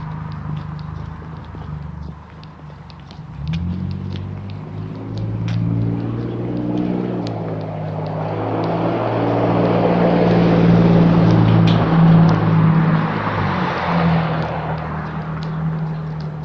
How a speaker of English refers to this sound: I'm walking in the street to get around that lady, and now I'm stuck in the middle of the intersection. Cars coming.